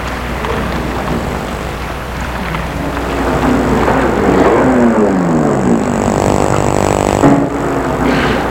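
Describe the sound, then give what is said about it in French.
A car engine rumbles steadily, its pitch sliding down as the vehicle slows and parks in front of a train station in a deserted neighbourhood, with a constant low drone and some wind-like noise underneath. “Il a vu la voiture de la gendarme noire qui s'est égarée près de la rue de lui.”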